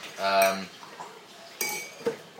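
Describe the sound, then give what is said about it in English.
Dishes clinking in a dishwasher: a bright, ringing clink of crockery, then a couple of sharper clatters of plates and cutlery a moment later, with no talking. “it's the dishwasher.”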